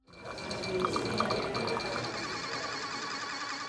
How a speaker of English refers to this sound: Water flows and machines whir at Tempe's new water testing facility. The 11,000-square-foot building will allow the city to bring its testing in-house as opposed to outsourcing it.